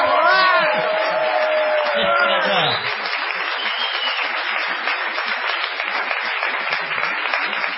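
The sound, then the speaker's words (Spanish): Loud, steady applause from a crowd at the Caras y Caretas venue fills the whole stretch, a dense wash of clapping, with rising and falling whoops and cheering voices over it during the first few seconds. “No menos falsa será la ovación que tributaremos a Gillespie.”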